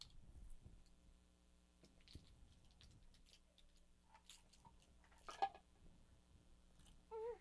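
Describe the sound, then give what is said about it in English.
Metal spoons and keys being handled: quiet, scattered clicks and light clinks, with one sharper clink partway through and a short squeaky sound at the end. No one speaks. “Those are the keys. Look, these are spoons. These are all spoons.”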